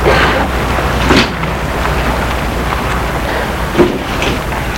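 A woman gets out of a car, parked a street away near Place de l'Étoile, amid a steady background hiss. Two dull thuds, like a door opening and shutting, land a few seconds apart at moderate loudness. No one speaks.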